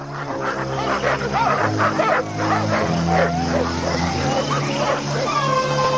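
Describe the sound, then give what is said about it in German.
Several dogs bark and yelp excitedly as a flock of birds flies up and distracts them, a dense, overlapping chorus of sharp barks with higher yips and whines mixed in, continuing steadily throughout. “Doch dann fliegt ein Vogelschwarm auf und lenkt die Hunde ab.”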